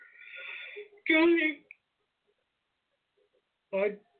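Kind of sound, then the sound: human body sound, a person yawning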